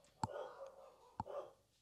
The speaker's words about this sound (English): It's a symphony of dogs.